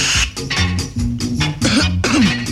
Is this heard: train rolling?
no